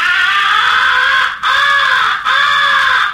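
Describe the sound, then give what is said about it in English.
Three long, loud, raspy crow caws blown on a crow call, imitating a crow's recognition call, as of a crow locating an owl or in distress; each drawn out and pleading, following one another with only brief breaks, with no talking. “You are imitating a crow locating an owl or in distress and plenty peeved.”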